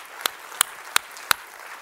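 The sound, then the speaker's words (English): Four sharp, evenly spaced handclaps from a church audience ring out over a faint hiss, a sparse, slow start to applause for God rather than a full crowd ovation. No one speaks. “God deserves a round of applause.”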